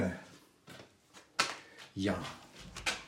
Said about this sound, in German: Öffnen wir mal die Door. Oh, zugeknallt.